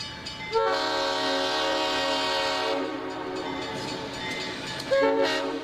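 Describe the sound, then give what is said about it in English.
A train rumbles steadily along while its loud, multi-tone horn blares for a couple of seconds, then fades, with a second horn blast starting near the end. “Next trick is we're going to jump this train.”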